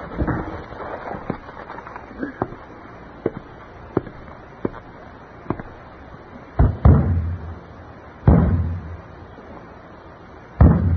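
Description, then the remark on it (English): Repeated hard thumps and bangs on a broken radio set, irregularly spaced with several loud heavy blows near the end, over a dull crackling background noise. “Bang it again.”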